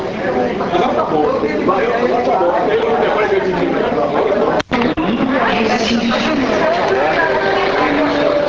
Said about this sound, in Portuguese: Aguardando a chegada dos atletas, e vocês podem ouvir o burburinho dos repórteres.